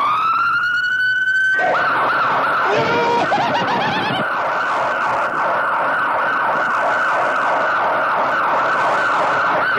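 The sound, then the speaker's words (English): Loud sirens of two police cars blare continuously, starting with a rising wail and shifting into a rapid, warbling yelp that repeats steadily, with no one talking. “We got 2 police cars, and we'll blow all the sirens you want.”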